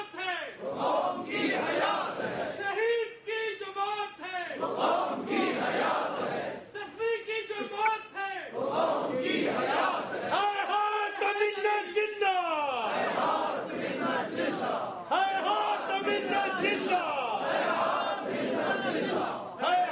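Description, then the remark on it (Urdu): A large crowd chants slogans in loud, rhythmic unison, voices rising and falling in repeated bursts with brief pauses between phrases, the chanting continuing steadily throughout. “جب یہ نعرے لگاتے ہیں, یہ نعرے نہیں اس طرح سے ہونے چاہیے.”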